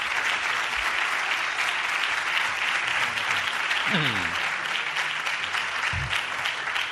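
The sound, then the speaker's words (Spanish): A large audience applauds the rector of the University of Seville steadily for several seconds, a dense, sustained wash of clapping that stays loud throughout, with a faint voice briefly rising over it near the middle. “Bueno, lo primero me gustaría es que ustedes le diesen un aplauso, un grandísimo aplauso al rector magnífico de la Universidad de Sevilla.”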